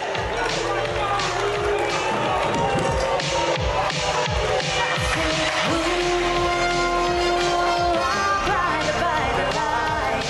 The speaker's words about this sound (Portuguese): O Caleri foi vaiado aí por conselheiros do Palmeiras. Vamos ouvir a vaia.